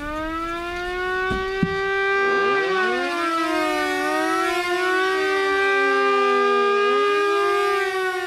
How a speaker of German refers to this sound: Das Geräusch, wenn die Sirenen gingen, das war ja dann immer am Anfang Vorwarnung, Nachwarnung und auf, ab und so. Und da waren ja alle Kilometer irgendwo auf dem Dach waren Sirene und die heulten dann alle und die einen fingen früher an, die anderen